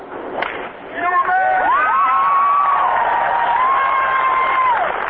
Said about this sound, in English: Stockholm, Sweden, please welcome Annika Sörenstam. And there was more loud applause after Sörenstam drove the ball on her first hole.